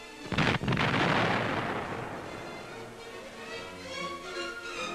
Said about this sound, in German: Die schweren Küstengeschütze eröffnen auf 500 Meter Entfernung das Feuer. Kreuzer Blücher erhält schwere Treffer.